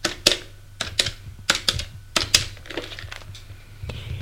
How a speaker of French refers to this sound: Prends son téléphone, fais un numéro.